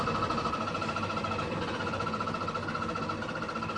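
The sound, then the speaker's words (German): A Trabant's small two-stroke engine, started with the ignition, runs at a steady, rattly drone with a buzzing mid-pitched whine on top, holding an even loudness throughout with no voices. “Zündung, ja. So, und jetzt links mit der anderen Hand das langsam reindrücken.”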